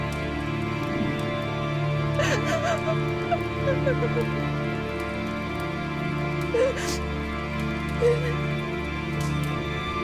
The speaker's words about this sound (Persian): خاتون لب تخت کنار سفره نشسته. به عکس امیرعلی زل زده. گریهش میگیره.